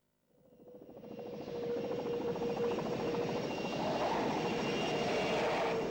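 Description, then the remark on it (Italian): An airplane coming in to land: a steady engine roar swells from silence within the first second, then holds loud and droning, with a faint whine riding on top. No voices. “Largo, che stiamo atterrando.”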